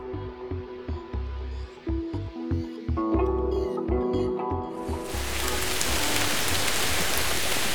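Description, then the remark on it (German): Rain suddenly starts pouring about halfway through, a loud, steady hiss that swamps the rhythmic music playing before it and continues to the end. “Oh nein, jetzt regnet es auch noch.”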